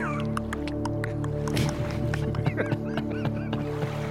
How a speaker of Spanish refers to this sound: Hay fuente, si no me... Espera que creo que hay corrientilla de agua, a ver.